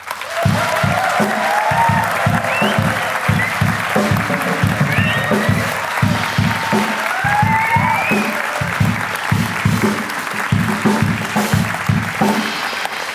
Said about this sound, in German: Und dann Applaus für diese Geschichte, den Burg wie nu.